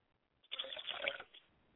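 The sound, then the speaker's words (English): Liquid is poured out as a ritual libation to the south, a short, splashing stream lasting under a second, moderately loud, then tapering off into quiet with no voices. “I pour libation to the south and I say Ashe.”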